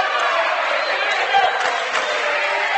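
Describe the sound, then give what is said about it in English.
The Jackson Center Tigers cheering section roars steadily at a volleyball match against New Knoxville, a dense wash of many overlapping voices yelling and cheering at a constant, fairly loud level for the whole few seconds. “We are amidst the Jackson Center Tigers cheering section.”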